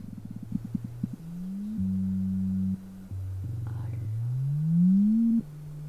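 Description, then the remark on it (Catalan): Phone haptic vibrations from a film's haptic trailer, played without sound and conveying the vibrations of cars, buzz right against the microphone: a quick series of short pulses, then sustained low droning hums that step and sweep upward in pitch, loud with no talking. “De fet, el posaré a prop del micro i és que el sentireu les vibracions dels cotxes.”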